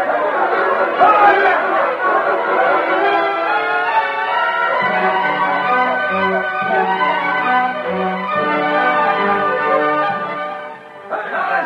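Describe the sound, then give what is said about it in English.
A dense crowd of townspeople chatters and cheers continuously, many overlapping voices blending into a loud, steady babble that dips briefly near the end before swelling again. “And so he thought it strange when one man from all the number walked unnoticed from a cheering townspeople.”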